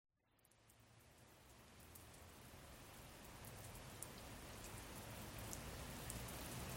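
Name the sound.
rain falling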